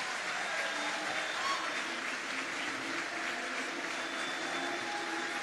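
An audience applauds Dr. Peter Navarro steadily, a dense wash of many hands clapping at a fairly constant level for the full five seconds, with no clear pauses and no distinct speech.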